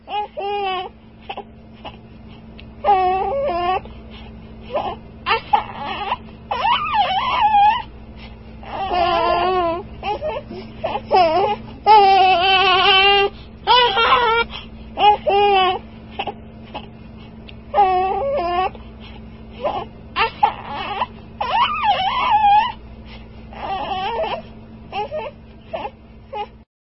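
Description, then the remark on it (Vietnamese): A baby boy of about five or six months cries in a police chief's office, in repeated wailing bursts with short whimpering pauses between, the high, wavering cries rising and falling over about half a minute, with a faint steady hum underneath. “Nhưng khi vào phòng giấy ông cảnh sát trưởng ấm nóng, đứa bé vẫn kêu khóc.”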